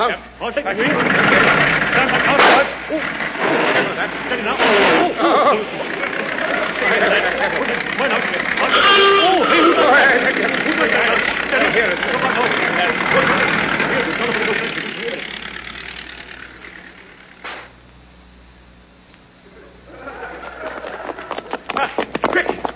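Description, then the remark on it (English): A taxi engine idles with a steady low rumble beneath busy, overlapping voices and movement. The sound dips briefly near the end before picking up again. “Taxi. Right, everybody in.”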